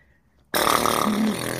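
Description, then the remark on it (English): A voice blows a loud, buzzy raspberry imitating a fart, starting abruptly after a brief quiet and sustaining for about a second with a wobbling, flapping tone. “I need you on the clear fart noises.”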